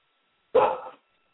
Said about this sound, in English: I'm at home, folks, and, you know, I don't have my studio set up yet. So I get to participate with my wild dogs in the background, which is a fun thing about being a spontaneous co-host.